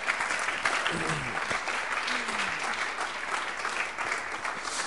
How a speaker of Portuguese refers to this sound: Alguém aqui pela primeiríssima vez? Muito bem-vinda. Eu queria uma salva de palmas aqui para essa senhora.